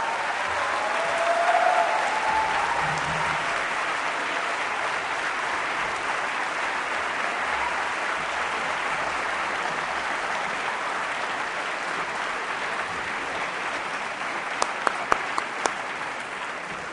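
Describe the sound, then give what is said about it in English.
A final round of audience applause for the attendees and the panelists: dense clapping that holds at an even loudness for the whole stretch, with a few sharper individual claps popping out near the end. “Let us end by giving all of you and our panelists one final round of applause.”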